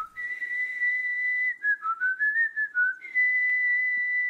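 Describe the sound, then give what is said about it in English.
A mother whistles her special calling tune, used to call her children to come find her, such as at the beach or in a park: a long steady high note, then a quick wavering run of short warbling notes, and another sustained high note to finish, heard alone without talk. “When I was a kid, my mom had a special whistle that she used when she was looking for us.”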